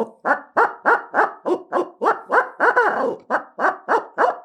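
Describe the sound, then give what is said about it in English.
A rapid, rhythmic string of about fourteen loud hooting notes, a laughing owl cackle blown on a handheld owl call, with no talking. “I love to hear an owl laughing.”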